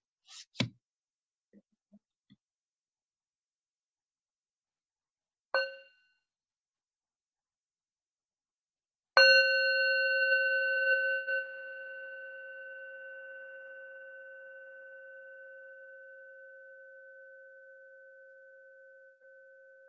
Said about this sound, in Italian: Ascoltiamo un suono di campana.